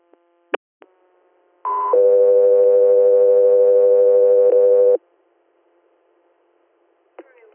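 Steady radio dispatch alert tones for the air medical unit Scott 3 Air: a short higher tone steps into a long, loud sustained lower tone lasting about three seconds, preceded by a couple of brief clicks and followed by faint static.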